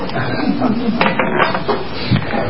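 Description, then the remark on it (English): A rusty chair creaks and grinds under weight, a steady run of dry, ratcheting clicks and scrapes lasting a couple of seconds at a fairly even, moderately loud level, with no talking. “I didn't even look to see how rusty this chair was.”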